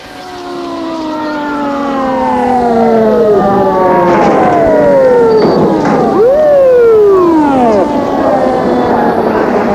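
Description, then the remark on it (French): An ambulance siren wails with rising and falling sweeps in a street, growing louder over the first few seconds as it approaches, then staying loud. Nobody speaks. “Une ambulance a débouché dans la rue, s'est arrêtée.”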